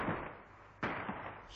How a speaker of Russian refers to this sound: Слышишь? Беглый огонь.